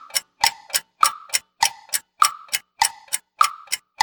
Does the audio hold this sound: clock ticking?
yes